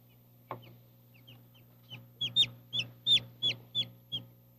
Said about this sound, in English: See what it is? A little chicken. It's a baby chicken. Stay over here, okay? And when this chicken was hatched, its feathers were all wet because it had just come out of the inside of the egg